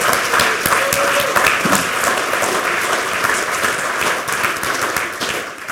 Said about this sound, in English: Can you have a huge round of applause for all the Lightning Talk presenters?